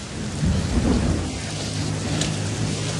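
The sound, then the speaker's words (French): Steady, dense rain hisses continuously at the Kawah Ijen sulfur mine, with a deep low rumble swelling early on beneath the downpour. No voices are heard. “Mais il pleut.”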